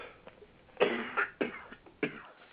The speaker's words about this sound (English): I'm sorry, I'm coughing again